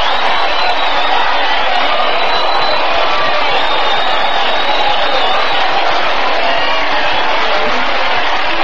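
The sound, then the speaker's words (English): A large crowd cheers and roars continuously, a dense, loud wash of voices with scattered whoops rising above it, steady throughout with no individual speech standing out. “Muncie's mob was polite to me, Pat, but they're cheering you.”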